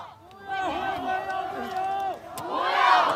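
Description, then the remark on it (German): A crowd of several hundred protesters with white sheets of paper in Beijing chants and shouts together in sustained, loud unison, the many voices blending into a rising, continuous roar. “Auch heute Abend in Peking wieder weiße Blätter, wieder eine Demonstration mit mehreren hundert Menschen.”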